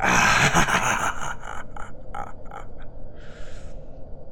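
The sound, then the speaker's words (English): A voice imitates a character's wild, maniacal howl, starting loud and strained, then breaking into a series of rasping, cackling bursts that fade into a breathy hiss. “And he continues to howl maniacally.”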